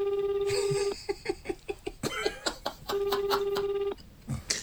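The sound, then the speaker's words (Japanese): A phone ringback tone on an outgoing call purrs steadily for about a second, gives way to a quick series of short pulsing beeps, then rings again before stopping, clear with no talking. “でも昼の電話なら出るかもしれないですね、あいつ。”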